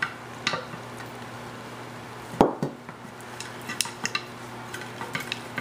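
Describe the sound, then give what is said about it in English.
Scattered clinks and knocks of cookware on an electric skillet griddle while small rotis are cooked, with one sharp louder clatter partway through and lighter taps after it over a low steady hum. No one speaks. “When I get done, I'm gonna show you how we're gonna cook these up on my griddle here.”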